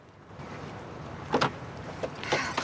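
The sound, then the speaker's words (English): A car door is opened after its window has been smashed, to get a dog out. There are a couple of sharp mechanical clunks and a rattling latch against a low, steady background hum. No one speaks. “Eddie smashes the window, then opens the door to get the dog out.”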